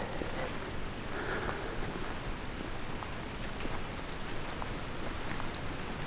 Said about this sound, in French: Tout est dominé par ce son très aigu. Je dis rien, à la limite du supportable. Des criquets et de la pluie là qui commence à peut-être à redoubler d'intensité. Enfin, quand je dis redoubler, légèrement plus intense sous les feuillages.